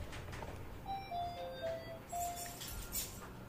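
A mobile phone ringtone plays a short electronic melody of clear, mid-pitched beeping notes that step up and down in a quick tune, fairly soft over a low background hum, with no talking.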